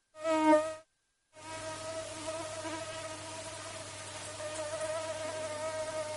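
mosquito buzzing

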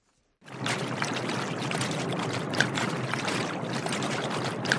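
heavy rain falling

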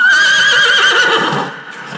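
horse neighing

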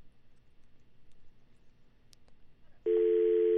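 phone line tone

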